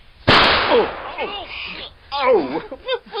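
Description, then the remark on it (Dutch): A single loud firecracker bang goes off, its sharp crack fading into a hissing tail, followed by animated voices exclaiming. “Er ontploft iets, een rotje of zo.”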